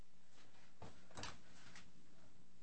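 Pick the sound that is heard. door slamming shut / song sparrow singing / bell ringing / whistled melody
door slamming shut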